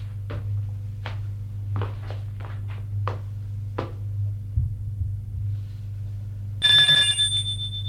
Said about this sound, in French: Sonne à la porte.